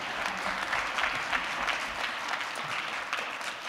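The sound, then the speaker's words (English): A church audience claps for Jesus together in a dense, steady wash of applause, many hands overlapping into a continuous crackle that holds an even loudness throughout, with no voices standing out. “And yeah, clap for him.”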